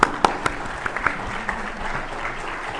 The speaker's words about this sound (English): Okay, that was a cheap applause line, but it worked.